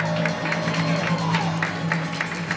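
An audience applauds steadily for a couple of seconds, a dense wash of many hands clapping at an even level, with a low murmur of crowd voices underneath.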